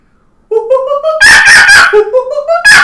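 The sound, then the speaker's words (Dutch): A person imitates a chimpanzee call: a string of rising hoo-hoo hoots builds into loud, shrill screeches, then the hooting climbs again into another burst of screeching. “Dat is een chimpansee, toch?”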